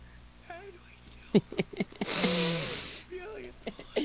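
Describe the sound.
A few short, sharp nasal sniffs lead into a longer, breathy snuffling inhale lasting about a second, with people talking quietly before and after.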